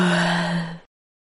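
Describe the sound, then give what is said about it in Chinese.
A single voice imitates a little pig yawning with one drawn-out, breathy ah sound, fairly loud, holding steady before trailing off after less than a second into silence. “小猪打了一个哈欠。”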